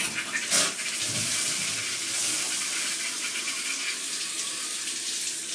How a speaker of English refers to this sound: And then, I'm going to reach forward to the faucet, and I'm going to turn it on, like this.